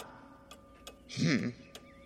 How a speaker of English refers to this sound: Can I hear any ticking? You hear the ticking of the clock tower.